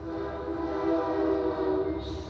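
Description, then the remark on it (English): A train horn blares in a steady, sustained chord over the broad rumble of a passing train on tracks running right next to an office building in Emeryville, California, near the foot of the Bay Bridge; loud, with no voices. “We're right near the foot of the Bay Bridge, and there are train tracks that run right next to our building.”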